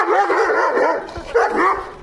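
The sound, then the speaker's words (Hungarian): A pet dog greeting a visitor in the small garden in front of a house barks and yelps excitedly in a continuous, high-pitched run of whiny vocalizations lasting a couple of seconds, with no talking over it. “Nagyon nagy aranyos kutya.”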